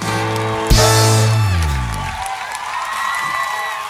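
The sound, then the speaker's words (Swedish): A sustained musical chord rings out and fades as a performance ends, giving way to a dense, steady wash of wild audience applause and cheering that carries on to the end. “Vilda applåder från publiken.”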